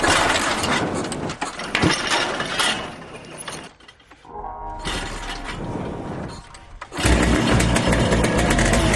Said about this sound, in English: But first, they've got to get their golfing machine motor to turn over.